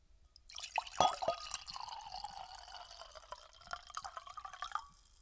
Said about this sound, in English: We're gonna pour another glass, hold on.